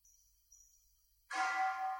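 A single loud bell strike rings out suddenly after a near-silent moment, its rich metallic tone sustaining and shimmering to the end with steady, resonant overtones.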